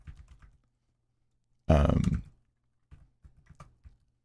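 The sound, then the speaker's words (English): Typing on a sticky computer keyboard that something was spilled on: scattered soft key clicks in short bursts, broken by one loud, harsh, rumbling burst of sound near the middle. No one speaks. “Man, my keyboard is like, I think I spilled something on it.”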